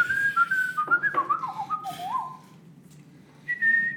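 A person whistles a short melodic tune, the notes gliding and stepping up and down for a few seconds, then pausing briefly before one higher sustained note, with a low murmur of background noise underneath.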